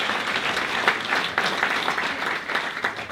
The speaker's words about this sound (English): We're going to give you an enthusiastic, warm round of applause to say welcome to all our guests.